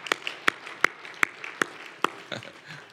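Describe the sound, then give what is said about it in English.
An audience claps hands together in a steady, even rhythm, about seven sharp claps in unison at a moderate level, with no talking over them. “Let's all clap our hands under that.”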